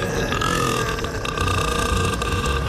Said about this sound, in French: Sidonie Bonnec. Qui peut produire des rots de 110 décibels.